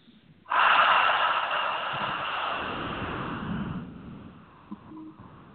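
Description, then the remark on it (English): One long, deep abdominal breath drawn in sharply and loud, airy, then slowly trailing off over a few seconds into quiet, taken during a group attunement ceremony with people sitting in a circle holding hands. No one speaks. “As this is accomplished, simply breathing into the abdomen and holding the frequency.”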